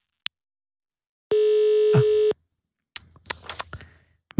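A brief beep, then a single steady telephone ring tone lasting about a second, followed by clicks and handling noises as the line is picked up.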